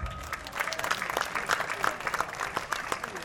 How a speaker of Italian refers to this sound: Un altro applauso.